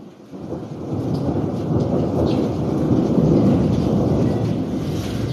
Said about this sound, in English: Here it is windy today. A severe storm caught our electricity.